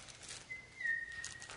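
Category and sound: crowd, crowd whistling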